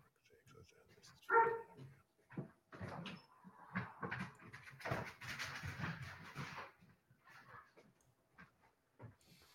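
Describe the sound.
A dog gives a brief, high whimpering yelp at a door, followed by several seconds of rustling and door movement sounds as the door is opened for it, with faint voices in the background.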